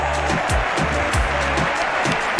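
A steady, dense wash of applause on a live broadcast program, given for the listeners who call in. A regular low thump pulses underneath about twice a second, like a beat behind the clapping.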